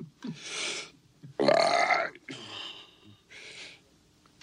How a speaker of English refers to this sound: I did realize that early on in our podcast history, Paul, we covered a film that had an early burp, Ben-Hur. Here is Ben-Hur in a burping scene.